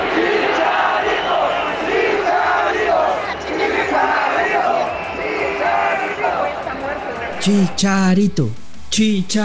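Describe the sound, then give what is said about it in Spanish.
Fans in the stands at the Bombonera chant the name of Chicharito, historic top scorer of the Mexican national team, in a loud, sustained, rhythmic roar of many voices. Near the end a single louder voice shouts over it. “O sea, la afición lo pide a gritos.”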